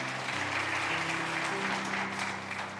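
An audience gives God a hand clap as they are seated in the morning, a dense, steady wash of applause that stays loud throughout, with a low sustained organ or keyboard tone underneath and no talking.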